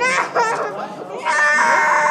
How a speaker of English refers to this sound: A 6-year-old boy screams as he's dragged to a table to have his finger pricked with a needle for a test that could help identify the bodies of the father and brother he doesn't remember.